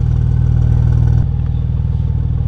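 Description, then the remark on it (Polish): A car engine rumbles steadily, loud and low, with a heavier surge in the first second before easing into a smoother purring drone as the car moves off to be reparked. No one speaks. “Mówiłeś o tym silniku i dźwięku silnika, to my teraz tak specjalnie się przeparkujemy.”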